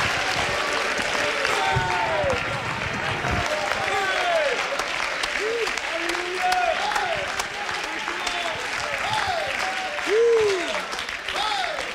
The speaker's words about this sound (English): Well, go ahead and clap your hands and lift up your voice.